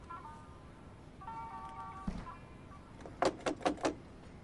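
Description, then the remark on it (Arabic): A door is unlatched and pulled open, with a dull thud followed by four quick rattling clatters, preceded by a faint tonal hum; no voices. “أنا سأفتح الباب.”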